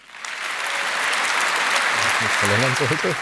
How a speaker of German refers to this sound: Und wenn ihr alle, die ihr hier seid, wenn ihr das genauso seht, dann bitte ich um einen großen Applaus an dieses Trio.